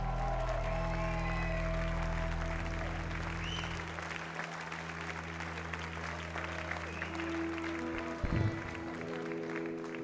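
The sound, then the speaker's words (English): A concert audience applauds steadily for about ten seconds, a dense wash of clapping and some crowd noise, with a low sustained instrument tone ringing underneath that fades partway through. “You guys are a really cool crowd, and this is a really great bill.”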